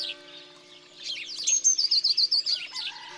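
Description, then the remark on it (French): A blue tit sings a high, bright chirping song, a quick run of about eight rapid, evenly spaced notes like a thin giggle, clear with no one talking, while it hangs upside down hunting aphids under leaves. “On dirait un petit éclat de rire très aigu. Titi, hu hu hu.”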